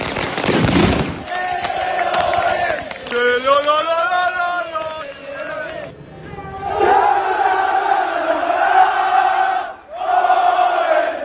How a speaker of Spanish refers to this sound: Era un buen motivo para celebrar. Mira, vamos a escucharlo. Petardos, bengalas, cerca de 500 aficionados esperaban al Elche llegando a casa.